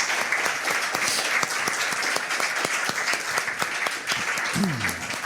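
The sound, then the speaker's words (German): Steady audience applause at the Privacy Week event of Chaos Computer Club Wien, thanking Live Solution for lending the cameras and talkbacks, fills the whole stretch, dense clapping from a crowd with a few sharper individual claps standing out, plus a brief voice murmur near the end. “Ganz herzlichen Dank und großen Applaus auch da noch einmal.”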